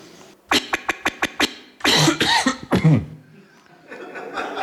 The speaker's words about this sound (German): Hat einen Loop in den Huster gebaut.